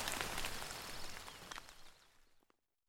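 Steady rain hisses softly with scattered individual drops pattering through it, holding for a couple of seconds before quickly tapering off into silence. No one speaks.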